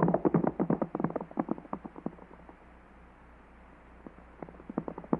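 Galloping hooves of tired horses ridden in pursuit of a fleeing rider pound in a rapid, dense drumming that starts loud, fades away to near silence midway, then swells back in toward the end. No one speaks.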